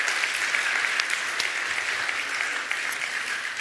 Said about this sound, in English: More round of applause. Yes, yes, yes.